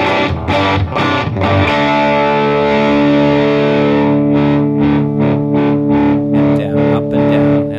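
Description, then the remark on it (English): A heavily distorted electric guitar plays loud, a few choppy strummed hits giving way to a long, sustained chord with a thick, crunchy, saturated tone. “That scorching distortion, I would call it. It's amazing, even with it dialed down, it gets a nice crunch to it.”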